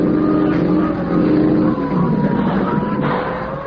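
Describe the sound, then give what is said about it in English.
A police motorboat's engine drones loudly and continuously as the boat approaches fast, a rough humming roar whose pitch shifts slightly as it runs. No voices are heard. “Police boat coming fast.”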